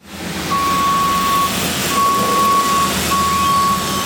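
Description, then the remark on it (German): Three long, steady reversing beeps sound over a constant rumble of vehicle engines and busy yard noise, loud, with no talking, as trucks arrive one after another and forklifts drive back and forth during setup work outside the ice rink in Davos. “Ein LKW nach dem anderen kommt an, Gabelstapler fahren hin und her und überall sind Leute, die etwas in der Gegend umeinander tragen.”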